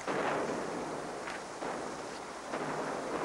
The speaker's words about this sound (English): Guns, Sasha. Are they fighting? They must be. It's a long way away.